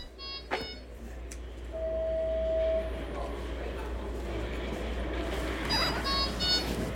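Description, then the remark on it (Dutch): An IV infusion pump beeps: short clusters of high electronic tones at the start and end, and a single steady mid-pitched tone lasting about a second, all over a constant low hum. “Maar nu krijg je een improvisatie van mij op dat piepgeluid van het infuus.”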